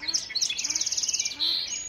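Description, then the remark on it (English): A busy dawn chorus of song sparrows, common yellowthroats, American robins and red-winged blackbirds at Tektaxan Marsh on Saturna Island, British Columbia: rapid high trills, repeated chirps and overlapping calls from several birds at once, steady, with no talking. “dawn chorus of the song sparrows, common yellowthroats, American robins, and red-winged blackbirds”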